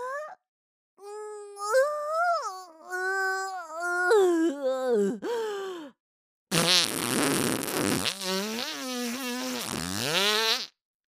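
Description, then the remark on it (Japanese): A long fart in two bursts: first a squeaky, tonal stretch that wavers in pitch, then after a short pause a louder, rougher, sputtering blast lasting several seconds. “いや、おなら出ちゃった。”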